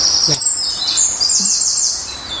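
A bird sings a bright, high-pitched song of rapid chirps and trills, ending in quick repeated calls, heard outdoors over a soft background hiss.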